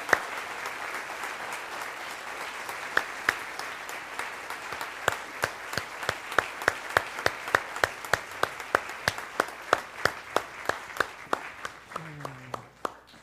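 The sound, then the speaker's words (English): An audience at a Christmas church service gives a round of applause in thanks, clapping steadily for over ten seconds, a dense wash of clapping with sharper individual claps popping out, tapering slightly at the end as a low voice begins. “Let's give one last round of applause to give thanks.”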